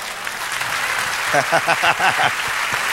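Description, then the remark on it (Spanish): A Spanish-speaking church audience applauds God with a steady, dense patter of clapping throughout, while a voice calls out loudly over it partway through. “Y por eso le aplaudo.”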